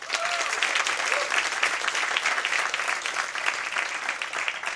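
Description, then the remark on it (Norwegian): An audience claps steadily in a dense, continuous wash of applause that holds at an even, fairly loud level throughout, with no voices standing out; the applause welcomes author and journalist Even Saugstad at a Christmas show on the theme of town eccentrics. “En stor applaus til mannen som har skrevet bok om dette, forfatter og journalist Even Saugstad.”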